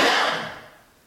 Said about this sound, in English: Coughing, some swallowing, breathing here, which is very quiet.